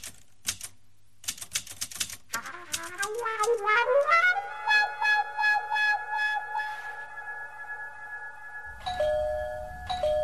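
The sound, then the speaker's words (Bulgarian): A few sharp clicks and taps, then a doorbell rings with a sustained, pulsing electronic tone that rises and holds steady for several seconds before shifting pitch near the end. “Звъни се. Не, звъни се.”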